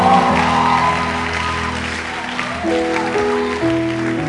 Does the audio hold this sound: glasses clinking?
no